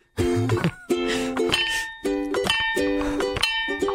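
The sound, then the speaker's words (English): A frog-shaped percussion instrument, a frog bell, is played in a repeating rhythmic pattern, each short phrase of bright, ringing, clinking hits starting up again after a brief pause, with no voices. “It looks like a frog and it sounds like a frog.”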